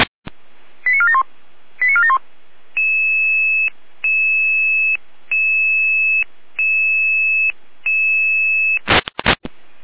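Radio dispatch alert tones: two quick descending tone bursts, then a steady sequence of five evenly spaced two-tone beeps, ending in a short burst of static. Loud and clear, no speech.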